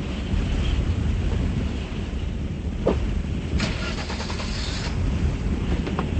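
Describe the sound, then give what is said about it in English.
Strong wind roars in a steady, dense low rumble with no letup as a woman runs out to her car, broken by a few brief clicks and rattles partway through. No one speaks. “Adrian runs out to her car, the wind whipping her long hair into her face.”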